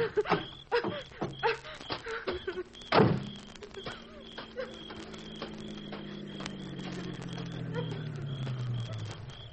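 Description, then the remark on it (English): A few sharp knocks and clatters, then a steady low engine hum that grows gradually louder as a car approaches, its pitch sagging slowly downward. “There's another car coming”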